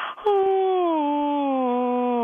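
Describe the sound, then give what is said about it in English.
A person does a vocal warm-up that sounds like a yawn: a long, steady, loud voiced tone that starts slightly higher and slowly glides downward in pitch for about two seconds. “So you sound like you're yawning.”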